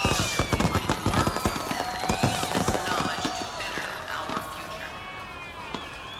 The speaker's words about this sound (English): Too many fireworks, too fast. Maybe the Night Expo is behind schedule? Most people are not even looking at the show. Why come out at night if you ignore the fireworks?